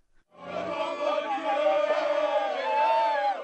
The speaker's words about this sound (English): Nigerian soldiers cheer after inspecting yet another strategic town regained by the army, which once was in the hands of Boko Haram.